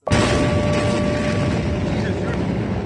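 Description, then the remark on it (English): A sudden, loud blast from an enormous explosion in Beirut, Lebanon, on a Tuesday night hits at once and gives way to a heavy, sustained roar and rumble that fills the whole clip, with a faint steady tone ringing underneath. “On this Tuesday night, an enormous explosion blasts through Beirut.”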